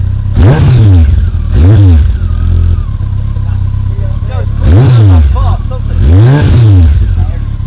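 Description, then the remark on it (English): A motorcycle engine revs loudly in four sharp throttle blips as someone twists the throttle, each blip rising and falling in pitch, idling roughly in between while voices murmur in the background. “Nice sound, but not my sort of motorcycle.”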